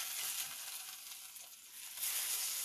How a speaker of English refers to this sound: I'm getting my Friday night cook on. Frying up some turkey burgers.